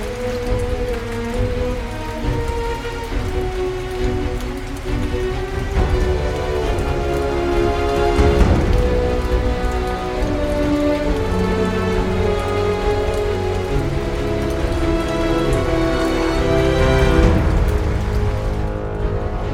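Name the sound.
heavy rain falling outside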